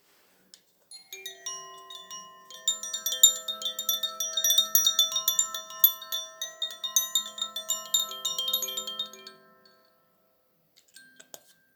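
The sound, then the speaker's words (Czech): Koshi chimes ring in a shimmering, overlapping cascade of bright metallic tones with sustained pitched notes, swelling for several seconds before fading, followed by a few soft scattered tinkles. “Toto byla zvonkohra koši.”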